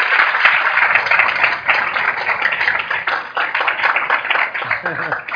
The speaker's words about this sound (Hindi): जोरदार तालियां।